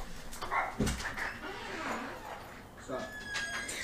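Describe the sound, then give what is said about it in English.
A dog barks a few times in short, sharp bursts, with some whiny yips in between, while people talk faintly in the background. “Wanna go check on your dog?”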